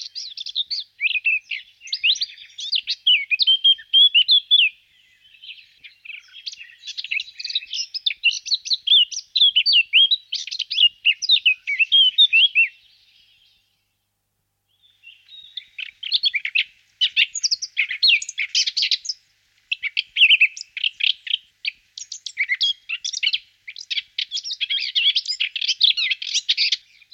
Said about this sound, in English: Blackcaps generally start with some harsh and challenging notes before moving into a fruity and fluty melody.